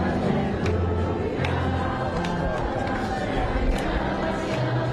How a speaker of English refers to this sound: The crowd quietly singing Alleluia. There is cautious optimism here.